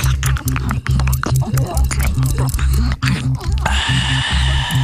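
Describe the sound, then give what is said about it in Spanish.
Loud mouth noises from a woman imitating someone gulping water: a steady run of about eight rhythmic swallowing pulses with wet clicks between them, and a brief hiss near the end. “Bebiendo agua, bebiendo agua.”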